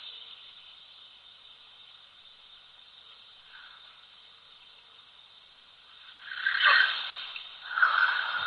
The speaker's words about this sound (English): I'm asleep, man. I'm snoring.